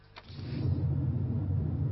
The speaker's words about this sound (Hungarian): Ma az M3-as autópályán minden autóst megállítottak.